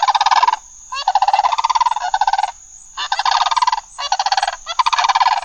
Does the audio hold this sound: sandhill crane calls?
yes